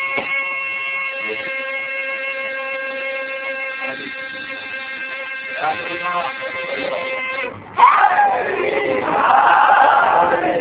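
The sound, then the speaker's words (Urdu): A steady, droning tone holds for about seven seconds, then a loud burst of children's voices breaks in, chanting slogans together in an energetic crowd roar. “دیکھیں یہ بچے نعرے لگا رہے ہیں”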